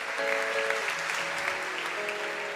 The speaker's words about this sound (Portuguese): Receba essa palavra e já dá um glória a Deus aí, meu irmão. Quer aplaudir? Aplaude. O Senhor é bom.